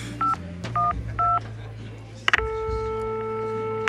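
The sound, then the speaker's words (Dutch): A phone number is keyed in: three short, evenly spaced touch-tone beeps, then a click and a steady, sustained electronic tone over a low background hum. “Ik zou hem bellen.”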